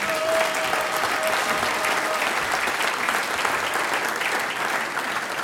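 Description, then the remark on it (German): Steady, dense applause from the audience of a sold-out house as the mayor, Franz Gruber, is called onto the stage for an interview, a continuous wash of clapping that holds at an even loudness for several seconds, with a faint whistle-like tone briefly audible early on. “Das ist ein Applaus.”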